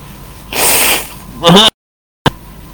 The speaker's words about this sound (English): See if I can blow my nose here.